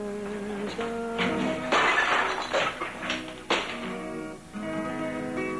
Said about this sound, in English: He picks up the fork, steps into the kitchen, then smashes the plate against the counter.